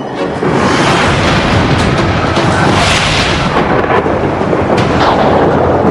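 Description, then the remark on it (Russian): A loud thunderclap from a lightning strike bursts in after a brief pause and rolls on as a heavy, continuous rumble for several seconds, with no voices. “Молния дает Зевсу могущество, необходимое, чтобы править Вселенной.”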